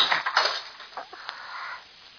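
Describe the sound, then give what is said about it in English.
A glass bottle smashes against the edge of a desk with a sharp crash, followed by scattered tinkling of shards settling for a moment before fading out. No voices. “Watch what happens when I hit the edge of the desk with this bottle.”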